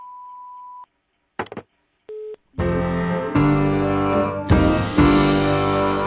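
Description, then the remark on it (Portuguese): A steady, clear voicemail beep holds for almost a second, followed by a few clicks and a short lower tone, then full music starts up loudly. “Oi, eu não posso atender agora, mas deixa o seu recado depois do bip.”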